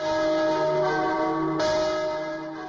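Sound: church bells ringing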